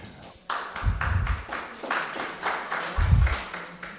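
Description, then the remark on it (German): A burst of applause from a group at a council meeting after a vote adopts a resolution, many overlapping claps starting abruptly and continuing steadily for a few seconds at moderate loudness, with no voices over it. “Ich bin ja ungern der Spielverderber, aber Beifall kommt eigentlich nicht vor im Plan.”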